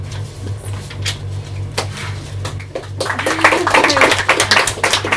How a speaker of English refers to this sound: I actually love when people clap in between poems, because I'm used to doing spoken word.